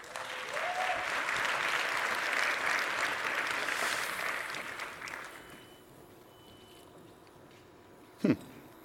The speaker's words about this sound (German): Deswegen habe ich auch schon mal heute Mittag vorbereitet, die Kollegen vom CERT. Dankeschön, nochmal großer Applaus.